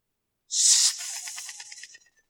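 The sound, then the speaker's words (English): A voice imitates the hiss of the snake in the Garden of Eden: a loud, sharp breathy hiss that bursts in, then trails off into a rattling, sputtering fade lasting about a second and a half. “If you wonder, I'm trying to imitate the snake in the Garden of Eden, okay?”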